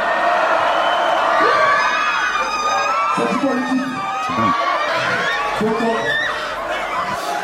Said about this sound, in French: Vous avez même provoqué une émeute au Festival des Ardentes. On peut écouter la foule en délire, s'il vous plaît.